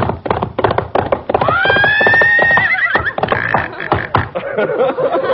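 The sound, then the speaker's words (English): A horse whinnies loudly with a long rising-and-falling neigh, while a rapid clatter of hooves clip-clops throughout, busy, suggesting several horses moving together. “Well, this is marked horses.”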